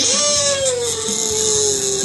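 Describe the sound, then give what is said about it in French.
A voice imitates a pig's squeal in one loud, sustained, shrill cry that slowly drops in pitch over about two seconds, with no other sounds around it, as a first step to imitating the voice of Philippe Manœuvre. “Pour reproduire la voix de Philippe Manœuvre, commence par imiter le cri du cochon.”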